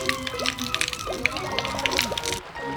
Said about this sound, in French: Il pleut de l'alcool de patate. Ça vient de là-haut. Wana, il vide les bouteilles une par une.